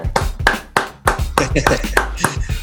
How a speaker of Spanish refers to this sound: Ya están nuestros siguientes invitados el día de hoy a la distancia y me pueden ayudar para recibir con mucho cariño y con un fuerte aplauso